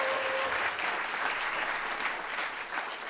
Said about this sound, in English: She wasn't manning the applause sign, so she didn't get it very good. Try it again.